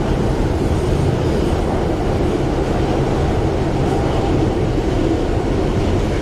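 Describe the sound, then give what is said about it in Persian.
A subway train rumbles steadily through a tunnel, a loud, continuous low roar with rattling wheel noise that holds constant throughout, with no voices. “گیهان با ریش و موی بلند تو واگن مترو نشسته.”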